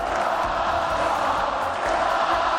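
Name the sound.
ovation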